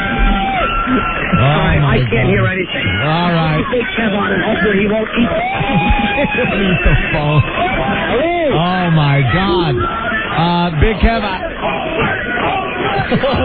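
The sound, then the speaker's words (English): A loud, dense crowd shouts and chants "homeless" continuously while car horns beep in sustained tones through the din, and a man's voice exclaims over the noise. “They're chanting homeless. They're beeping horns.”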